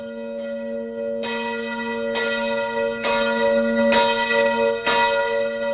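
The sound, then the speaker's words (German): Church bells ring out steadily in various Romansh villages on the evening of 20 February 1938, after the vote result making Romansh a national language was heard on the radio. Strong sustained tones with a new clang struck roughly once a second, loud and resonant, with no voices present. “Februar 1938 haben in verschiedenen romanischen Ortschaften die Kirchenglocken geläutet, nachdem man im Radio das Abstimmungsresultat gehört hat.”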